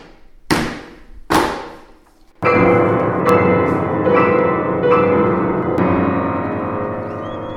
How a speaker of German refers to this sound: Da ist das Portal. Das heilt euch alle. Beide klopfen dreimal ans Portal.